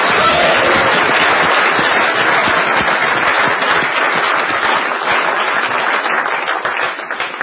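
A crowd applauds steadily for several seconds at a campus event, a dense, loud wash of many hands clapping for campaign co-chairs that holds its level throughout before easing slightly near the end.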